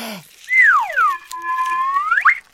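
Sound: whistle being blown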